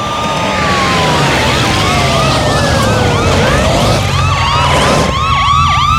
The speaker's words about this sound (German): Es dauerte nicht lange und ein Polizeiwagen kam auf den Parkplatz gerast. Zwei weitere folgten.